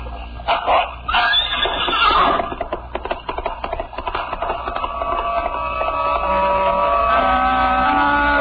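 A gigantic black dog barks several times in quick, uneven bursts, loud, then the barking gives way to a long, drawn-out tonal cry that holds steady to the end.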